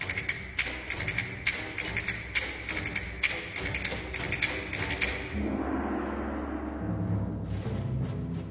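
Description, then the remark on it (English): Castanets click in a quick, irregular rhythm for about five seconds, then a gong is struck and its deep, shimmering tone rings on steadily to the end. No voices are heard. “The castanets and the gong.”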